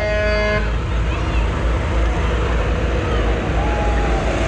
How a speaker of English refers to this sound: guys got a pretty good head of steam up in those tractors. Showing all their equipment coming by.